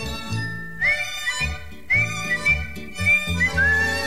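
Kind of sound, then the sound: human body sound, man whistling a tune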